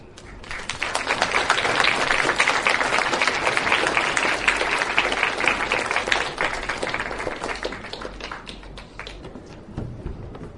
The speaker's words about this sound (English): So thank you very much to those readers from Bromsberg School. Big round of applause for those people.